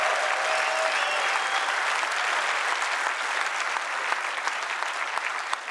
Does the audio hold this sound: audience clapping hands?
yes